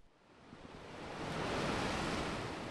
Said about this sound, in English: Waves constantly thrash the fishing village of Mutricu on Spain's north coast. Records from the 13th century describe the dangerous surf and shipwrecks here.